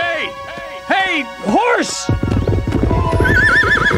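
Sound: horse whinnying and hooves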